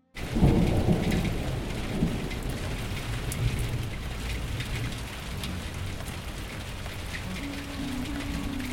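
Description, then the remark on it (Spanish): Heavy rain pours down steadily while deep, rolling thunder rumbles low throughout, loud, with no voices, like a storm in full force. “Cuando llegó el mes de noviembre, los animales enfrentaron un fuerte temporal. El cielo no dejaba de llover, los ríos ya empezaban a aumentar su caudal y los caminos comenzaban a anegarse.”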